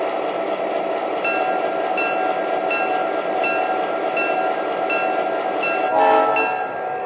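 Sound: passenger train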